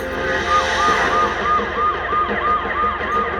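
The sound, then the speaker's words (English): An ambulance siren yelps in rapid, repeating rising-and-falling cycles, loud and steady over a low rumble of background noise, with no one speaking, as the ambulance takes an injured patient strapped onto a gurney. “And they wheeled me outside and they put me in the ambulance.”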